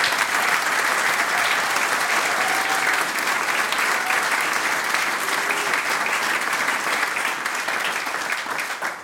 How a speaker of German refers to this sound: Großen Applaus für die zwei Herren.